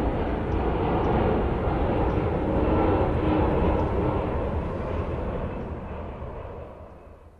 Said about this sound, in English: The plane takes off against a leaden sky.